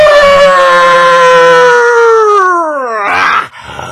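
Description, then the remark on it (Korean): A voice imitates a wolf howl: one long, loud, sustained harmonic wail that slowly slides downward in pitch, followed by a brief breathy burst at the end. “편지를 받은 여포는 또다시 늑대의 본성을 드러낸다. 아우!”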